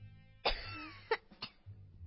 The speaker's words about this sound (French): Puis elle éternua et toussa. Et toussa encore. Et toussa encore plus fort.